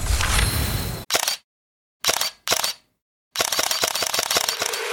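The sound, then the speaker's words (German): Camera shutter clicks of a Xiaomi 17T Pro smartphone's Leica camera, loud: a few single snaps separated by silent pauses, then a fast, steady burst of rapid-fire shutter clicking that runs to the end. “Mit dieser Kamera willst du einfach alles festhalten.”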